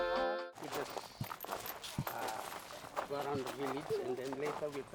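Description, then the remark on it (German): A few footsteps of people walking a few steps over to an old well, at an unhurried pace, each step a soft distinct thud, with people talking and a brief tonal sound at the very start. “… geht mit mir ein paar Schritte und zeigt mir den alten Brunnen.”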